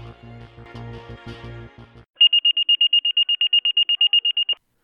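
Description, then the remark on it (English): A low, pulsing buzz gives way to fire station dispatch alert tones: a rapid run of about fifteen loud, high electronic beeps in steady rhythm, clear, dispatching stations 14 and 16 to a working residential structure. “tones sound and the dispatcher announces, stations 14 and 16, working residential structure.”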